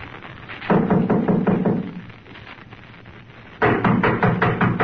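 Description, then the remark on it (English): Two loud bursts of rapid, repeated knocking on a door by police, each a quick series of heavy raps, separated by a short quieter pause. No one speaks. “I'll knock.”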